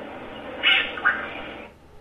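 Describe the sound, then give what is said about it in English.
An Alarum cacique bird gives two short, bright calls, the first longer than the second, rising out of a steady hiss of forest background noise. “The other was the Alarum Cacique.”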